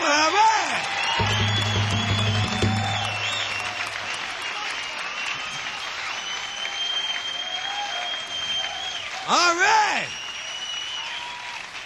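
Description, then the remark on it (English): Steady crowd applause fills the whole stretch, dense and loud, with scattered whoops and cheers rising over it and a brief spoken line near the start; the biggest crowd the show has had to date. “do you always have crowds like this on this thing?”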